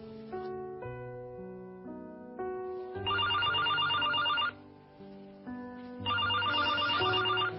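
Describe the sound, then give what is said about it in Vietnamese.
A home telephone rings in two loud bursts of rapid trilling bells, separated by a brief pause, over a soft background of sustained musical tones. “Coi chừng có điện thoại thì nghe.”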